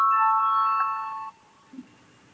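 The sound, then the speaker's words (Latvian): An electronic bell in parliament rings steadily with bright, sustained tones for just over a second, calling a vote on proposal 109, then cuts off, leaving quiet room tone and a brief soft thump. “Lūdzu, zvanu balsosim par 109. frakcijas saskaņu priekšlikumu.”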